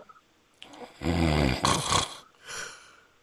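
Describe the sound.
A voice imitates snoring: one loud, rattling snort on the inhale, then a breathy exhale and a softer second breath trailing after. No talking.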